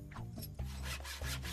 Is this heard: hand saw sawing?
yes